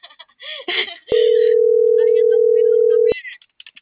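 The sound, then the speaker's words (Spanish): A single loud, steady telephone line tone holds for about two seconds as a call is transferred to voicemail, with brief bits of talking just before and after it. “Tu llamada está siendo transferida y se cobrará al terminar los tonos siguientes.”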